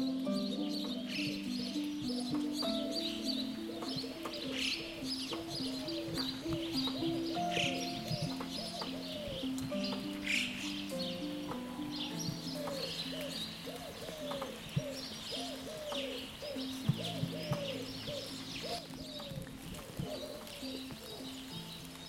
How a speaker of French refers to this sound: Alors là, tout de suite, avant de vous dévoiler le sommaire de cette émission, je vous emmène dehors, oreilles tendues, silence, ou presque, gouttes d'eau et oiseaux.